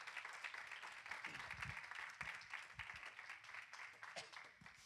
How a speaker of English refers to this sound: come on, let's clap it up.